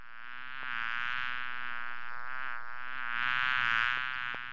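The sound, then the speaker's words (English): A bumblebee buzzes nearby in Atlanta, a steady droning hum that swells louder toward the end as if drifting nearer, with no voices. “The nearby buzz of a bumblebee might scare the average citizen in Atlanta.”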